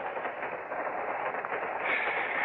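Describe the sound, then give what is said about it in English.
A steady, rushing rumble of a passenger train rolling along its rails, continuous and fairly loud, with a slight rise in hiss near the end and no voices. “Crummy train, no privacy.”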